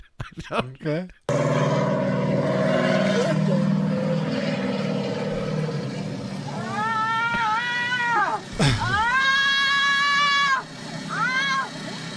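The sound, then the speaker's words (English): A person imitates a revving motorcycle engine with their voice, making several loud bursts that rise and fall in pitch over a steady low background hum. “And there was a video when we were like in elementary school, they'd show it to us, and the mouse would have to like make noise to make the motorcycle.”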